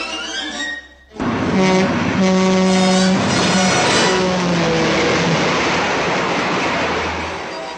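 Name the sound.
train passing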